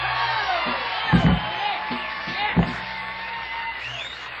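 A crowd applauds and cheers in a steady, dense wash of clapping, with whoops and shouts rising above it and a couple of low thumps partway through.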